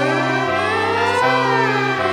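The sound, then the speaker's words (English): A fire truck siren blares loudly and steadily for about two seconds, a harsh, buzzy wail with small shifts in pitch and no voices over it. “Freddy the fire truck races through town.”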